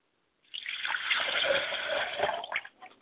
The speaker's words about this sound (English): I'm going to pour libations to my mother spirit, Yamanja, and say Ashe.